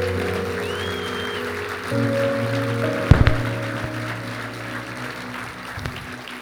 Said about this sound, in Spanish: ¿Tú crees eso? Dale un aplauso fuerte.